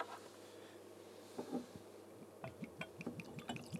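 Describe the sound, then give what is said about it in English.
A 56% ABV, 102-proof whiskey pours into a glass in a quiet trickle with a few gurgling splashes and clinks toward the end, no voices present. “102 proof. Yeah, so let's pour this out and get into some Nars.”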